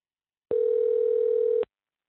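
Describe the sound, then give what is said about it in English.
A single steady electronic ring tone from an outgoing phone call returning a caller's call, one even burst lasting about a second, clear and fairly loud with silence before and after and no voices. “I will call your phone directly, person who's now I've hung up on twice, and see if we can have a conversation. It's ringing.”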